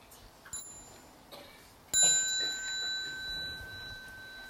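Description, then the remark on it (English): A small bell at a retreat chimes faintly once, then is struck clearly a second time and rings out with a bright, sustained tone that slowly fades. “So when you hear the small bell, you might like to stand up and bow to the Sangha before you go out and practice.”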